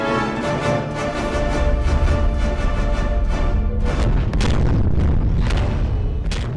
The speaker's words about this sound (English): Whoa, that sounded like a lot of explosions.